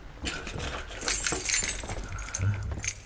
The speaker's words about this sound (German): Mr. Duane und Mr. Austin, würden Sie Dr. Chandler einmal Ihr Schlüsselbund zeigen? Bitte? Ich verstehe nicht ganz. Das Schlüsselbund, bitte.